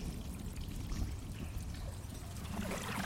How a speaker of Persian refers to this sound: روی ورودی تونل از اونجا آب بیرون میاد.